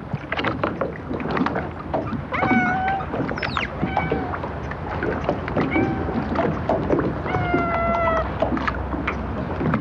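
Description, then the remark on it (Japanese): Steady outdoor ambience at Takeura fishing port in Kanagawa town, Japan, with lapping water and wind, punctuated by several high, wavering creaks or cries, like boats straining at their moorings; no one speaks. “神奈川町竹浦漁港です。”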